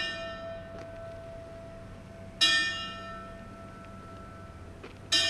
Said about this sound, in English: The ringing of bells.